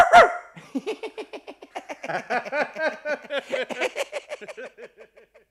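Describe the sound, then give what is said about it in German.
A voice imitates a yapping dog, letting out a long, rapid string of short, high barks in a steady rhythm, fairly loud, with no talking. “Ich wollte ja nicht mehr bellen. Aber ich sage dir, das Bellen, das kann man sich richtig angewöhnen.”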